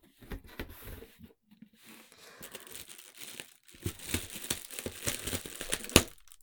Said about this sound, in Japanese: はい、ダンボールから開けていきたいと思います。